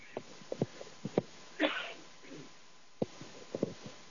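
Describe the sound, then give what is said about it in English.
A single muffled sneeze made with the microphone held away, sharp but subdued, breaks a quiet stretch scattered with faint clicks and small mouth noises. “When this happens, I don't have a sneeze button.”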